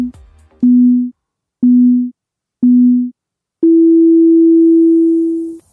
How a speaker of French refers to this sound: c'est à toi après le bip.